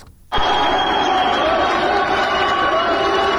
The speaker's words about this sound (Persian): صدای تشویق قوی ترین زن ایرانی است، گیتی موسوی، زمانی که نام خود را در تاریخ ورزش جهان جاودانه کرد. این زن قهرمان در فرودگاه مهرآباد تهران با کشیدن یک هواپیمای غول‌پیکر به وزن 17 تن و 750 کیلوگرم به مسافت 5 متر و 17 سانت